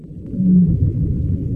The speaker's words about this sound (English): And sometimes, Ziak scores two remarkable sounds back to back. A little bit of a vocalization from a baleen whale.